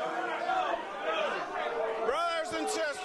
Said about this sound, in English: they do sound mad. They were furious. They were hooting and hollering. Some were calling union leaders' names, and some pointedly asked, didn't their votes count?